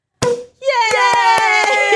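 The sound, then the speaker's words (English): A single sharp cork pop bursts out as a bottle of champagne is opened, then a steady voiced tone sustains while five quick, evenly spaced claps or taps punctuate it. “We were going to have Prosecco, but turns out for the first time in my life I can't open a bottle of champagne.”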